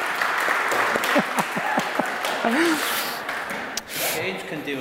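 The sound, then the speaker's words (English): A crowd applauds with dense, steady clapping that lasts the whole stretch, mixed with scattered whoops and cheering voices, easing briefly near the end before picking up again. “Can we give them a clap?”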